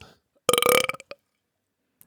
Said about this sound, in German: Hauptsache … rülpst einmal ganz laut